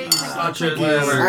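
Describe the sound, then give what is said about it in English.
Glasses of wine clink together in a toast, a sharp chime followed by overlapping ringing tones as several glasses touch in quick succession. “cheers, everybody. Clinkies.”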